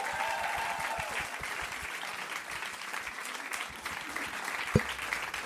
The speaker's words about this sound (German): Ein Riesenapplaus für unseren ängstlichen Hund.